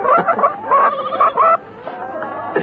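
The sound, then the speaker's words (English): A bird clucks repeatedly in short, busy bursts, fairly loud, with a few rising squawky notes mixed in before the clucking thins out toward the end. “Kill that bird, we want it tomorrow.”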